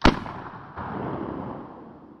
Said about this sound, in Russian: когда Екатерина была занята сбором хвороста в лесу, она услышала ружейный выстрел